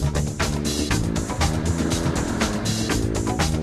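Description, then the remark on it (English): Steering fans being tested spin up with loud whirring, a steady motor whine layered with pulsing gusts of rushing air. No one speaks. “Now they have to check out their steering fans.”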